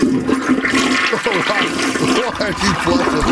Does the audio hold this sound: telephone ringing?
no